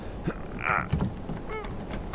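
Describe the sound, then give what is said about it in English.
A jammed door to the captain's quarters of a boat is forced open with a couple of dull knocks and thumps, then strained wooden creaks and a rising squeal of hinges, with no talking. “The door feels jammed.”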